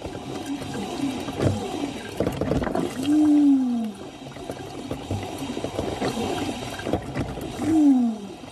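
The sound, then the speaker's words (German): A coffee machine named Susi, in Nuremberg, gurgles and sputters steadily while being descaled, broken by two loud, drawn-out groaning tones that slide downward in pitch, one midway and one near the end. No one speaks. “Liebe Hörerinnen und Hörer, was hier so erbarmungswürdig stöhnt und röchelt, das bin nicht ich, sondern das ist meine Kaffeemaschine Susi.”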